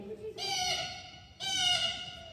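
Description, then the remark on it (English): A voice imitates a blue jay with two harsh, buzzy, nasal calls, each lasting just under a second, separated by a brief pause. Both are fairly loud and rich in high overtones. “That is perfect blue jay.”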